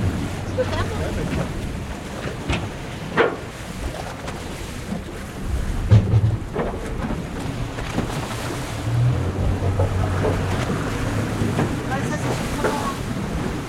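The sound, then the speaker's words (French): Steady wind rushes past a boat moored at the quay in the harbor of the Île de Sein, an island at the tip of Brittany in the Iroise marine natural park, heard from on board, with a low engine-like hum and a few scattered knocks and bumps from the hull and rigging. “Alors là, on est dans le port de l'île de Sein. On est à quai, à bord du bateau.”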